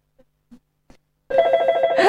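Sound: telephone ringing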